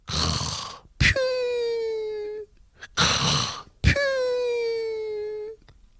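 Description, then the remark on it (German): A voice imitates snoring twice, each time a rough, noisy snort followed by a long, high whistling exhale that slowly slides down in pitch, fairly loud, as someone pretends to sleep on a sofa with his head on a pillow. “Dann tut er so, als ob er schnarchend schlafen würde.”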